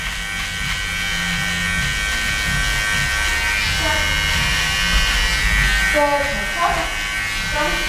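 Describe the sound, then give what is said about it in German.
An electric hair clipper buzzes steadily right by the ear, a loud, even drone with a rich harmonic hum that never lets up, while brief murmurs of voices come through underneath. “Ich halte jetzt mal kurz inne, weil dieses Gerät direkt an meinem Ohr summt.”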